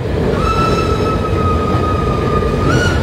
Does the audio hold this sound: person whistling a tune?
no